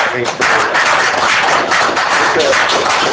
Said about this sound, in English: And I think they deserve a round of applause. I mean, honestly, I do too.